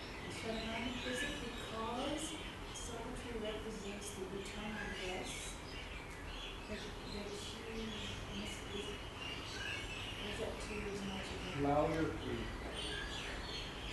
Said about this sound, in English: Those birds are making so much noise. We can't hear ourselves think.